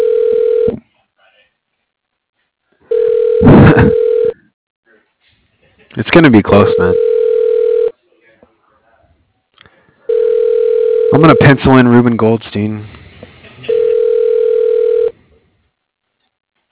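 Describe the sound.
A phone call to Salem Wood Products rings out with steady, buzzing ringback tones, about five evenly spaced bursts separated by pauses of silence, while a man talks over several of them.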